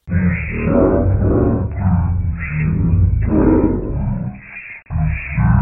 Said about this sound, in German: Laut jubelnd laufen Menschen zusammen, Palmwedel werden geschwenkt, Jesus reitet auf einem Esel durch die Menge hindurch. Ein Mann läuft voran und heizt sie an.